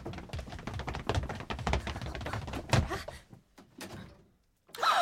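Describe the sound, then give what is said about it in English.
A door is rattled and tried, with a busy run of clicks, taps and knocks from the handle and frame, a solid thunk, then a brief hush before it swings open. “Try that door.”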